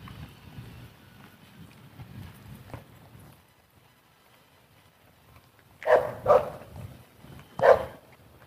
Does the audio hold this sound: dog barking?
yes